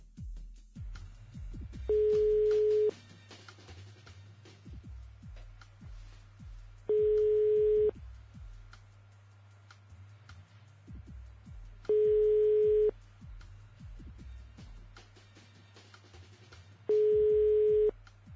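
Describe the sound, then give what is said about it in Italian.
A telephone ringback tone sounds four times at steady, evenly spaced intervals, each ring about a second long, over a low background hum and faint noise, with no one picking up. “silenzio tutti quanti, anche da casa, zitti, ascoltiamo la telefonata”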